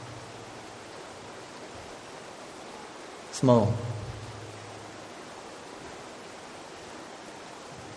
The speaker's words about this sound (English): just the sound of the water rolling over those rocks down there